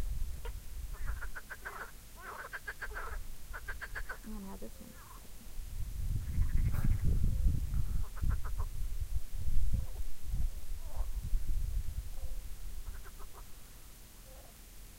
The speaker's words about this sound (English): Their lips, their cheeks totally blow up. They're getting aggressive towards each other, that's what it is. I bet these are the bladder frogs they mentioned. Look at all. He's getting really excited, the one under the mustard bush.